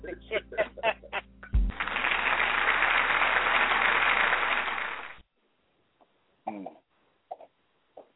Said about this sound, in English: Where is the applause? Where is the applause? Oh, let me tell my team. Where is the applause? Please give this lady the applause.